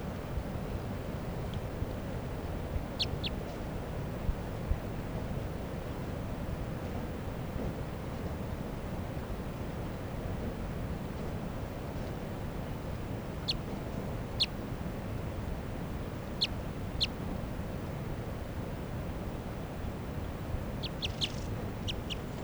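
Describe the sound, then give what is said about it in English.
A wild female crossbill, light-coloured with a left-crossing bill, gives short, sharp high-pitched call notes, singly and in pairs, ending in a quick burst of several. The calls sound faint over a steady low rumble of wind. “Wild bird. Wild bird. Left crossing bill.”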